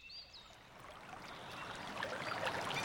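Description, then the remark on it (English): Steady, hissing rush of flowing river water that swells gradually louder, with a couple of faint bird chirps near the start and no voices. “1 hour later, Megan, Amy, Oliver and Todd arrive at a river.”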